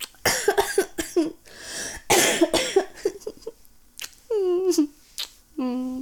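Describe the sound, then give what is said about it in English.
A person coughs in several harsh bursts, a couple of rough fits in quick succession, followed by short voiced sounds with clear pitch, fairly loud. “I guess I still have a little bit of a cough.”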